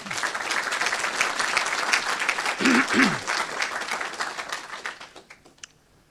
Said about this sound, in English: So here we go. let's give the Lord a clap anyway.